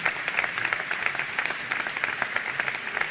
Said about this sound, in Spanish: Un aplauso entonces para el equipo que asume en el día de hoy.